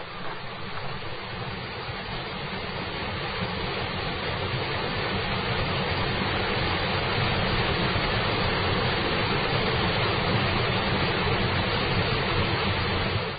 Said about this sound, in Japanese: 蛇行を繰り返していた道が、南へと方向を変えてわずかばかり進んだ右下に、箕面大滝がある。滝道へ入り、長き坂を降りていく一方、滝の音がどんどん大きくなってくるだな。もうすぐそこだんだよ。